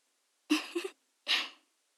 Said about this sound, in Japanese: かわいい息遣い、聞こえてますよ。